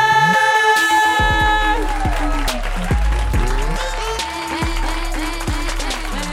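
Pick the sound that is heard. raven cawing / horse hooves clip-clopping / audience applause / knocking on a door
audience applause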